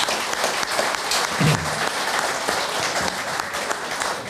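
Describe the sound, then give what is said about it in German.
Steady applause from a group fills the whole stretch, a dense, even patter of many hands clapping at a fairly strong level without letting up. “Und ich denke, auch da noch mal ein Applaus, dass du sowas magst, ja.”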